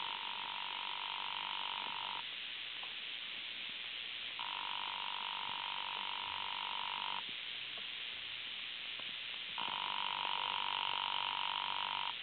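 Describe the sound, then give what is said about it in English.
A telephone in hotel room 304, rung by the hotel operator, rings three times through a thin, band-limited line, each long ring followed by a silent pause. No one picks up and no voices are heard. “I'll ring it for you.”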